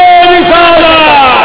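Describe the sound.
A large crowd roars a loud chant in unison, many voices blending into one sustained, full-throated shout that fills the whole short moment.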